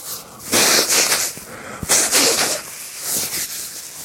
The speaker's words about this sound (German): wenn ich mir Nasenspray in die Nasenlöcher puste und mich schneuze und huste und solche Dinge mache und Krusch und Kram. Aber das lasse ich jetzt einfach mal drin.